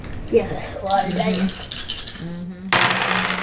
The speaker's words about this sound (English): let's go ahead and have you roll your dice for your attack. You do two green.